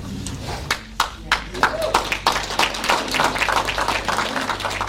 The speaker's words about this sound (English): there was systemic racism within the Thunder Bay Police Service at an institutional level, there was applause and standing ovation by the crowd.